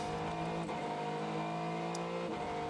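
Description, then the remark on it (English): The engine of the Mayshank Racing Acura prototype race car, with Tom Blomqvist behind the wheel and 7 hours 21 minutes of the race to go, holds a loud, steady, buzzing drone at constant revs, continuous throughout, with a brief flicker in pitch near the end and no voices. “So 7 hours and 21 minutes to go, and the engine you can hear is that of the Mayshank Racing Acura.”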